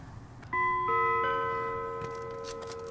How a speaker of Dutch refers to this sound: ik ga me op dit moment naar de toegangspoort toe bewegen. Ik zie hier een bel. Even kijken, daar moet ik deze hebben.